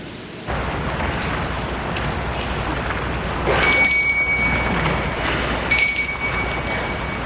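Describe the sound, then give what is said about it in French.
A doorbell at the door of a house rings twice, a couple of seconds apart, each ring a bright, high metallic chime that lingers briefly over a steady background hiss. No one speaks. “Après avoir monté sur le perron, il va sonner à la porte de la maison.”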